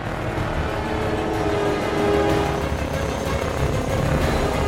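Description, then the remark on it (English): A helicopter engine roars loudly and continuously as the helicopter soars straight upward, a dense mechanical drone with heavy low rumble that holds steady and swells slightly, with no voices. “Bond yanks the controls, and the helicopter soars straight upward.”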